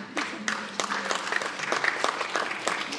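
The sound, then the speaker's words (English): An audience at a conference claps steadily, a dense patter of many hands with sharp, irregular claps standing out over the broad wash of applause, moderately loud and continuous throughout. “so you can clap, y'all can clap.”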